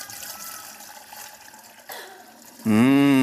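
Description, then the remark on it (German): Wine pours steadily into a glass with a continuous splashing trickle, then swells into a louder, hollow gurgling tone in the last moment as the glass fills. “Oh ja, das sieht gut aus. Es hört nicht auf, oder? Wie viel Wein wollt ihr heute?”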